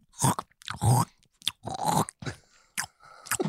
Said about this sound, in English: Do I make noises eating?